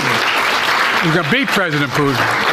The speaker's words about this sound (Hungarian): Putyin elnök, le fogja győzni Putyin Zelenszky elnök, pontosított Joe Biden, miközben a mögötte álló vezetők illedelmesen tapsoltak.